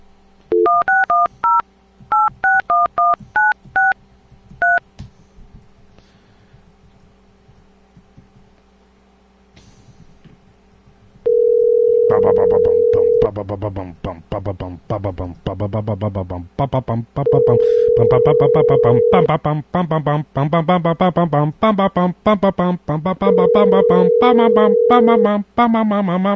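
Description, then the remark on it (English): A quick run of touch-tone dialing beeps as someone calls a person again to test with a phone, a short quiet pause, then a steady ringback tone repeating at even intervals on the line while loud voices talk over it. “How many times does the phone have to ring?”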